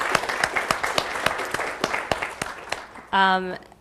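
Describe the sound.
A small audience at a free and open source software conference applauds for about three seconds, individual claps standing out sharply over a steady patter, before the clapping stops and a single voice sounds briefly, like a short sustained cheer.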